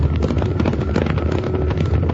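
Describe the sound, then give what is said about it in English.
A dense, continuous low rumble of Tuttle's cattle stampeding, a heavy thundering roar of many hooves that stays loud and steady throughout with no pauses or voices. “It's a stampede. It's Tuttle's cattle, and they're headed right for us.”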